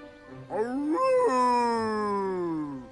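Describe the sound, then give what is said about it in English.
A single thin, weak wolf-like howl rises briefly, wavers, then slides slowly downward for a couple of seconds, alone with no talking. “Did you hear that weak howl?”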